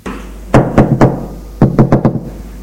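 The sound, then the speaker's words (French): A father raps his knuckles on his son's bedroom door in two bursts, three knocks and then four quicker ones after a short pause, fairly loud, with no voices. “Côtefroy frappe à la porte de la chambre de son fils”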